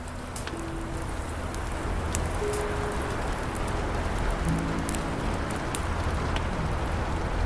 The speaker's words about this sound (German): Der Regen. Die Geräusche der Wellen. Verweben sich zu einer unbeschreiblichen Sinfonie.